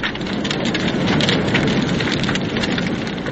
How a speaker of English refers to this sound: The flames licked round the straw-covered hands and the feet of the guy. He appeared to gain great satisfaction when the plank cracked and splintered, and the weird figure it had been supporting slid slowly into the holocaust below.